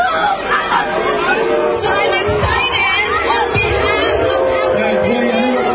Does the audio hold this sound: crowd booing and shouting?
yes